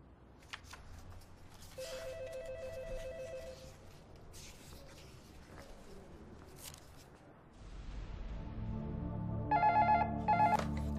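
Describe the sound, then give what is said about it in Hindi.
A telephone rings in two separate bursts of warbling tones as a call is placed and the receiver is not picked up, over a steady background hum that grows louder and fuller near the end. “Telephone लगा रही हूँ, रिसीवर नहीं उठा रहे हैं।”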